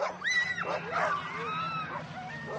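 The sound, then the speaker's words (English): A pack of sled dogs lined up for the Fur Rendezvous World Championship Sled Dog Race in Anchorage yips and whines excitedly, overlapping high-pitched cries rising and falling without pause, over a low steady background rumble. “It's a week before the start of the Iditarod, and in sled dog-crazed Anchorage, mushers are lined up for the Fur Rendezvous World Championship Sled Dog Race.”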